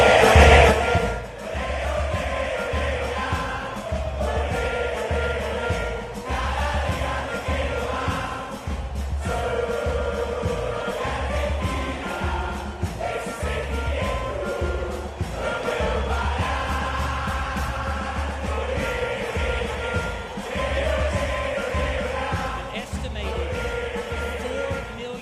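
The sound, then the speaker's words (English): A huge street crowd in Buenos Aires, Argentina, cheers and chants together over a steady pounding beat, celebrating Argentina's World Cup victory, a dense, loud wall of voices that keeps going for the whole stretch without letting up. “Celebrating and cheering the victory of the Argentinian team.”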